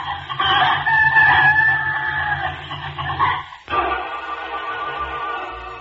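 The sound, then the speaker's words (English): A hen squawks and clucks loudly and frantically in a nearly continuous burst that pauses briefly before the agitated cackling resumes; a little red hen making noise after waking and seeing a fox. “But just then, the little red hen woke up and saw the fox and began to make enough noise for 100 hens.”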